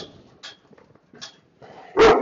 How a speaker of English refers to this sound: Oh, hush, dog. He just told the other dog who's boss.